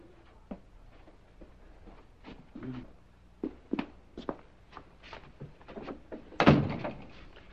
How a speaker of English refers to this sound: Now, this may look like an ordinary door to you, but observe. You open the door. Not this door, that door. Clever.